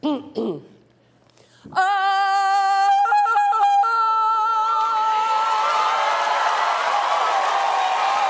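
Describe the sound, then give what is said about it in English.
A person lets out a long, loud Tarzan yell with sharp warbling breaks in pitch, held for several seconds as audience laughter and applause swell underneath. “Excuse me, but that's my Tarzan yell.”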